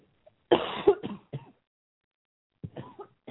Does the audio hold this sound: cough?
yes